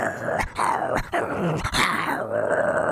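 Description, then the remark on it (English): A person imitates a small dog's growl, a raspy, rumbling snarl that rolls on for three seconds, broken by three quick catches of breath. “Now, give me a little bit of a growl.”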